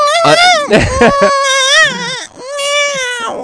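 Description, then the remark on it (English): A voice mimics a newborn baby's wailing cry, loud, with a few rising and falling sobbing bursts and a short catch of breath between wails. “That's newborn.”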